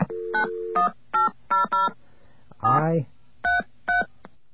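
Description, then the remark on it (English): A fake telephone dial tone: a series of short, evenly spaced beeping tones like telephone dialing, about eight in quick succession, imitated by a voice, with a brief swooping vocal sound in the middle. “That was a fake dial tone, by the way.”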